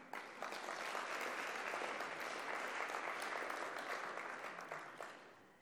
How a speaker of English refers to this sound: Ladies and gentlemen, a final round of applause for this moment that's so important in this MOU.